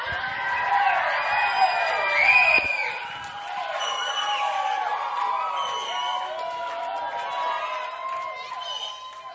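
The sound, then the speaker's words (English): An audience of young people cheers and applauds a guest speaker being introduced in the evening, a dense wash of overlapping shouts and high whoops that swells early, then holds at a steady, lively level for about nine seconds. “Give it up for”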